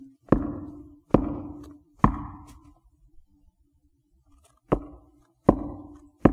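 Firm knocking on a door: three solid, evenly spaced knocks, a pause of about two seconds, then another set of three. The knocks are resonant, with no talking.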